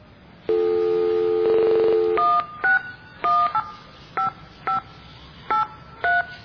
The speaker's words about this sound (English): We just gotta find a payphone, dial the phone number, and when it asks for money, we press the buttons and it pays you to put money in.